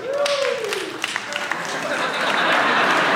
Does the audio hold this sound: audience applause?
yes